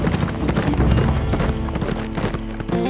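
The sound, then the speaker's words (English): Horse hooves clip-clop at a steady trotting rhythm, fairly loud, with a low musical backdrop underneath and no voices. “He would pick up that big black horse he had left hidden outside the settlement and head for New Mexico territory, to whatever fate awaited him in Santa Fe.”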